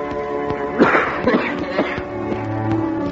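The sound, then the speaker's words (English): A man coughs in a few rough, raspy bursts, the loudest coming first and the others trailing off, over a steady low hum. “If you don't mind my saying so, sir, that cough sounds mighty much like my poor boy Tim.”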